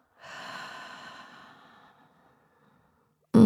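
A slow, deep, airy breath in and out, soft and gradually fading, followed by a pause of silence before a sudden loud sound cuts in at the very end.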